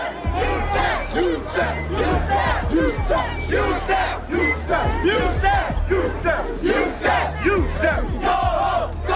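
A large, angry crowd of Italians shouts and yells together while rattling a police barricade against a march led by Al Sharpton, a dense, continuous roar of overlapping voices with rhythmic chanting bursts and a low rumble underneath, loud throughout.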